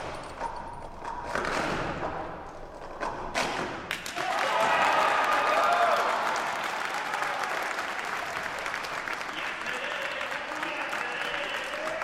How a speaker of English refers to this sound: That day at the St. Michael Center, the applause told it all.